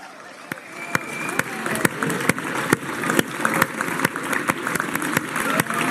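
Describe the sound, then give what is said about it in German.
A crowd applauds and cheers loudly and steadily for Christoph Strasser over the last meters of Trans-Austria 2023, with dense clapping throughout, sharp percussive bangs or claps punctuating it at irregular intervals, and a murmur of voices mixed in. “Rein, die letzten Meter, unser Mega-Applaus.”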